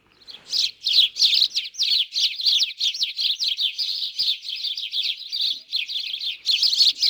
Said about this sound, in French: Alors, en premier, on aura le moineau domestique.